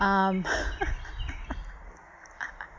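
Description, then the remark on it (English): Birds chirping noisily, a sustained harsh call at the start followed by scattered short, sharp chirps over a rough outdoor background. “oh my god, those birds are really obnoxious, sorry.”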